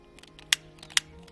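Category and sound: household object, lighter being flicked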